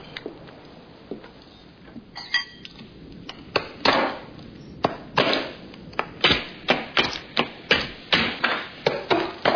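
Sharp, crisp strikes of a pick chipping into a block of ice to make a drink, sparse at first then settling into a steady, quickening rhythm of bright cracks with faint icy clinks.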